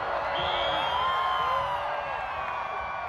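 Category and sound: crowd, stadium crowd cheering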